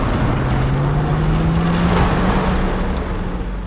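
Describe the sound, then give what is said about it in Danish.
A heavy Russian truck's engine rumbles loudly and continuously, its rough drone slowly rising in pitch as it strains and falters while the truck breaks down, its electronics failing from strong radiation, with no talking. “Nu begynder lastbilen at gå i stykker.”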